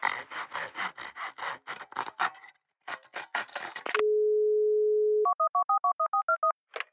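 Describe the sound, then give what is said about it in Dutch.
Clattery handling noises give way to a steady telephone dial tone, followed by a quick, clear run of about nine touch-tone dialing beeps. “Ik ga Antoine wel even bellen.”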